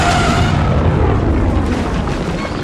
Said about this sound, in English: A huge explosion of force energy threw him bodily off his feet.